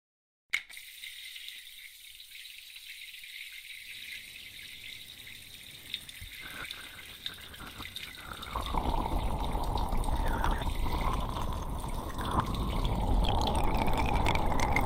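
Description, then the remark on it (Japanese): Shower water runs with a thin, high hiss at first, then swells into a steady, full splashing rush that continues to the end, rinsing a person's hair with slightly lukewarm water after an oil and carbonated-foam hair wash. No one speaks. “ではシャワーを。”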